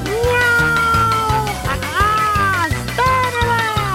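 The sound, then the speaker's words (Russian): The kitten Findus lets out three long, drawn-out meows, each rising and then falling, loud over a bouncy musical accompaniment with a steady plucked bass line, while riding on a brush across the kitchen floor. “Потом котенок вскочил на щетку и начал кататься по кухонному заливу.”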